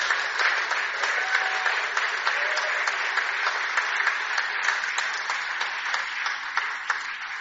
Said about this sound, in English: Shall we give her a clap for just sharing that?